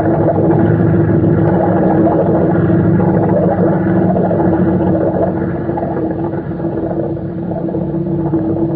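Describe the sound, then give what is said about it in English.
A boat engine is started and drones steadily with a deep, loud rumble and a constant humming tone, holding an even level throughout with no voices. “Look, I will start the engine. Oh, listen to that.”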